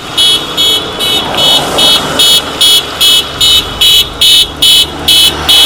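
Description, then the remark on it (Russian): A motorcade of cars in a patriotic rally rolls along Victory Street toward a WWII memorial, greeted by local residents, with a low engine rumble, while a loud, high-pitched horn beeps in a steady, rapid rhythm about twice per second throughout. “К тому же многие северчане приветствовали автоколонну.”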